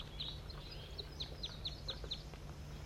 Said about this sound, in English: Wild bird.